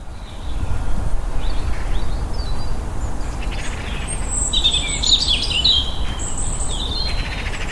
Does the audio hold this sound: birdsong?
yes